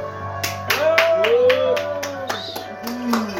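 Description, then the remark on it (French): Applause in steady, distinct claps, about two or three per second, fairly loud, with voices calling out in rising and falling tones over the clapping. “Tu couperas le premier applaudissement, tu me garderas le deuxième.”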